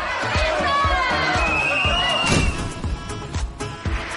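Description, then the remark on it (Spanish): A crowd of students at the University of Oviedo shouts and jeers at former Spanish president Aznar during a lecture, loud and constant, over one another, with a steady rhythmic thumping beneath the voices that eases slightly after a couple of seconds. “El expresidente Aznar dedicó una peineta a los estudiantes que le increparon durante una conferencia a la que acudió en la Universidad de Oviedo.”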